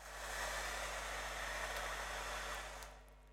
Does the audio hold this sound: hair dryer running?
yes